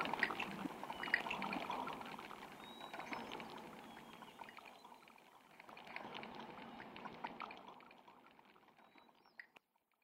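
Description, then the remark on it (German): Water trickles and splashes steadily for several seconds at a hermitage, a soft continuous babble that eases off briefly midway before picking up again, with a faint click near the end. “In der Klause allein kommt das Herz zur Ruhe, bleibt der Klang des Wassers.”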